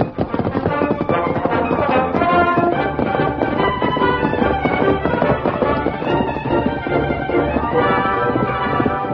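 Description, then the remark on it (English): The hooves of the Lone Ranger's horse, Silver, beat out a steady, rolling lope, loud and continuous for the whole stretch, blended into a thick, busy layer of sound with no one speaking. “The Lone Ranger held his great horse, Silver, to a steady lope that covered a lot of ground with a minimum of energy.”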